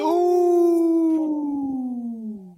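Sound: wolf howling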